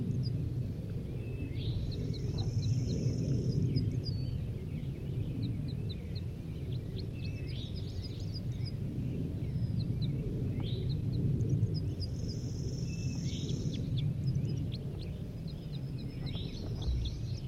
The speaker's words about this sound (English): believe I hear more crossbills coming too. Coming in from southwest.